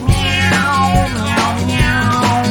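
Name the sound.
cats meowing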